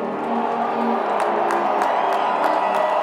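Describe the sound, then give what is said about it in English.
Ohio State football fans in a large stadium roar and cheer continuously after singing their school song, a dense wash of voices with scattered whoops and faint claps cutting through, reverberant throughout. “What you hear in the background is the Ohio State fans cheering because they just finished singing their school song while there are 7 Illini fans left to not sing our school song.”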